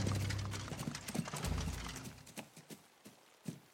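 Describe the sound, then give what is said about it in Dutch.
A horse's hooves clip-clop at a steady trot in the distance at about 11 at night, fairly faint, with a low rumble underneath that fades partway through. “Het is tegen 11:00 in de avond als Kees in de verte de hoefslag van een paard in draf hoort.”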